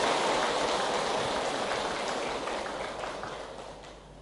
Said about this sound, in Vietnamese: Nhân dịp này đó, các vị hãy cho một tràng vỗ tay thật lớn để tán dương công đức chung.